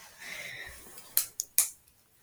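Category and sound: household object, pen clicking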